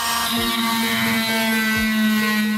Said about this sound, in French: Je commence par retirer l'os crânien à la scie à plâtre.